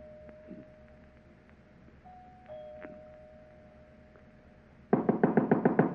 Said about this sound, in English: It was night. There wasn't a light in the big house. I walk up the front stairs, punched at the doorbell, and heard it ring inside.